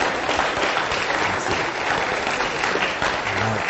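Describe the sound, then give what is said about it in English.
Steady applause from an audience for a family being welcomed fills the whole stretch, a dense, even patter of many hands clapping at a constant loud level, with a faint low hum briefly appearing near the end. “Did we clap for these?”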